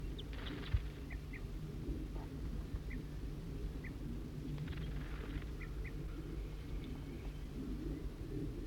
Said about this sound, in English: Somebody's giving alarm calls.